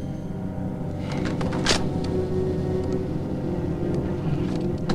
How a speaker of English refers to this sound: He gets out of the truck and shuts the door.